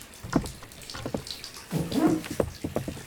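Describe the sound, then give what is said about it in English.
Water splashes and sloshes irregularly in a bath as someone bathes, moderately loud, with a string of short splashy bursts over a few seconds and no one talking. “I'll be at the window, then, as long as you keep your back turned while our Majesty's treasure is bathing.”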